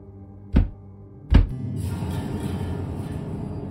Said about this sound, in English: Knock twice if you can do that.